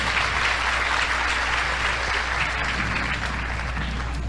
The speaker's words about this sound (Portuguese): Aplauda o Senhor por isso.